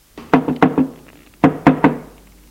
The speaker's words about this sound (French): Une heure plus tard, son mari frappe à la porte de sa chambre.